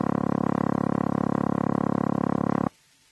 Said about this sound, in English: Now run over these four tones again. Dialing tone.